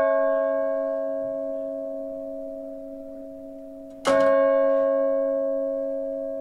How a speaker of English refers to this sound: Now, on a much more pleasant note, many of you were delighted to hear WBUR reporter Kurt Nickisch and his story about the inaugural ringing of an 1801 Paul Revere bell at the Old South Meeting House.